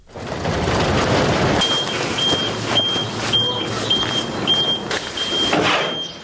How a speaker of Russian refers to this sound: Оранжевые машины подъезжают к мусорной свалке на окраине Тбилиси. С кузова на землю они сбрасывают горы мусора, пестрящие разноцветными целлофановыми пакетами.